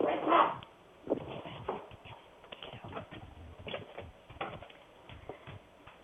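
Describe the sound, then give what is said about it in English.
A mother dog with puppies gives one loud bark at the start, followed by quieter intermittent whimpers and scrabbling clicks scattered through the rest of the moment. “basically what happens is that the mama dog is now understanding that she is not in charge, that I'm in charge”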